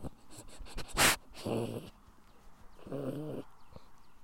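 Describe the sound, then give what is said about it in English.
A small dog gives two short, purr-like growls, each a low rumbling burst lasting about half a second, with a brief sharp rustling noise just before the first; outdoors on a chilly day of about 60 degrees. “That's his purring.”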